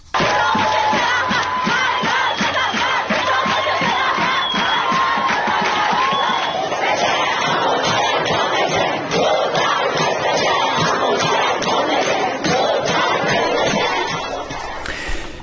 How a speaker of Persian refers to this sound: گروه زیادی از دانشجویان شعار رئیسی برو گم شو توپ تانک دانشگاه دخترانه است دیگه، دانشگاه دخترانه است دقیقاً، و شعارهای علیه خود ابراهیم رئیسی سر دادن.